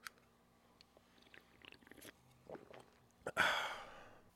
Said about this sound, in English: Let's take a quick sip break. Oh, yeah.